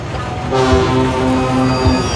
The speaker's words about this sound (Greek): ο Τόμας επέστρεφε από το δάσος όταν τον είδαν δύο διζελομηχανές, οι οποίες έσπρωχναν κάποια αυτοκίνητα